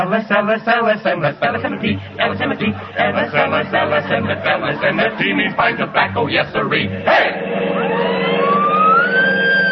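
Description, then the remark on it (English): Voices talk over a busy backdrop, then a police car siren starts up near the end, its loud steady wail climbing in pitch and holding high. “Oh, Wilson, get the police car.”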